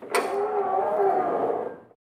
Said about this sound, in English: The woman opens the door.